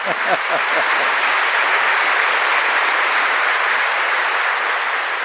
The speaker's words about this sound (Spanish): El último aplauso para ustedes, ¿eh?